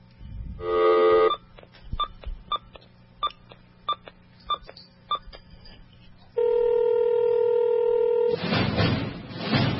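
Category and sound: signal or alarm, telephone being dialed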